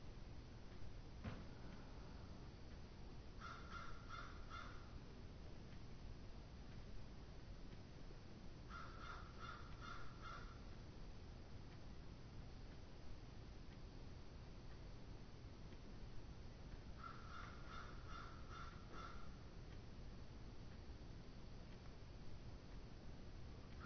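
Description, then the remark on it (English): Birds call outside the window in three short bursts of repeated, crow-like caws, spaced several seconds apart, over a steady background hiss with no talking. “Birds calling outside the window.”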